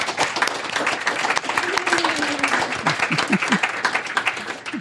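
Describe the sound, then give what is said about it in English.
An audience applauds a panel at the end of an evening panel discussion, with steady, dense clapping for the whole stretch, the claps blending into a loud, continuous patter, with a few faint voices rising briefly near the end. “So let's give our panel a huge round of applause.”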